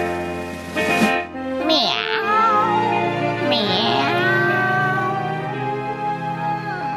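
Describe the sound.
A human voice imitates a cat meowing, with a few long, wavering meows in quick succession, fairly loud, with no other sounds around them.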